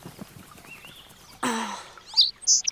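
A brief whooshing rustle, then a few quick, bright sparrow chirps close by, sharp and high-pitched, bunched together at the end with no talking.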